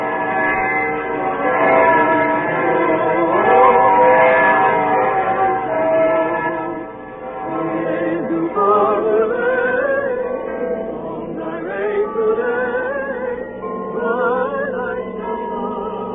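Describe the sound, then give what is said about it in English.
Evening church bells peal continuously high up in the Staple Tower on a snowy evening, their overlapping tones blending into a dense, steady ringing that holds at a fairly loud level for the whole stretch, with no voices. “The shops in the Kurtnerstrasse were full of people buying presents for each other, and then hurrying home for dinner in the snow as the evening bells began to ring high up in the Staple Tower.”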